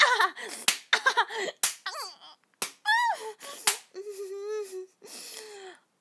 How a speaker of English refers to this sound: Yeah, slap me. Fucking slap me. Go harder.